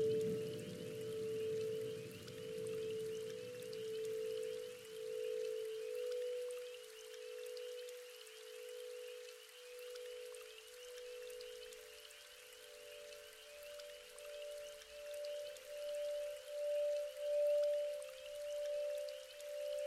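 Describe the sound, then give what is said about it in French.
Soft, steady rainfall hisses throughout, with sustained ringing tones of crystal singing bowls humming over it; no voices, and a low rumble fades out in the first few seconds. “Vous pouvez relaxer votre attention et tout simplement rester dans le lâcher-prise et profiter pendant les prochaines minutes de la pluie et des sons des bols chantants en cristal.”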